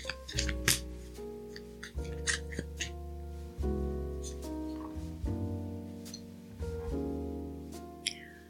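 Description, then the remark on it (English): A deck of affirmation cards being shuffled, with quick papery riffles and flicks scattered throughout, over steady, gentle background music with sustained chords. No one speaks. “Okay, so I'm going to shuffle these cards and see what we need to affirm today.”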